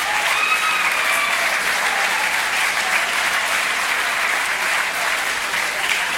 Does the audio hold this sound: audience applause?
yes